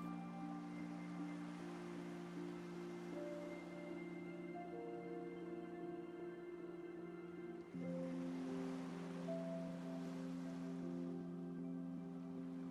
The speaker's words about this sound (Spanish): Escuchando las olas del mar que van y vienen. Como tu respiración apacible. Sosegada.